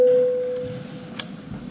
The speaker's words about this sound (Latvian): Tātad, kolēģi, jābalso, lūdzu zvanu.